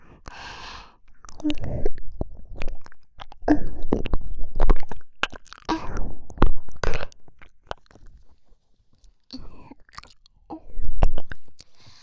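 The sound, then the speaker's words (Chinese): Wet mouth sounds of biting and chewing on an ear, with soft smacks and crunchy nibbles coming in irregular bursts, separated by quiet breathy pauses and a sigh. “狠狠地咬一口，在你的耳朵上留下我的牙印。”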